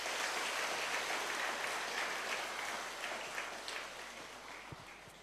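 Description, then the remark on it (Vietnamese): A Buddhist audience claps steadily in a dense, continuous wash of applause that fades slightly toward the end, with no voices over it. “Nếu các quý Phật tử thấy là việc thực tập lòng nhân từ như vừa nêu đó là lễ cho mình và mình có thể làm được, hãy dâng cao một tràng vỗ tay thật lớn nào.”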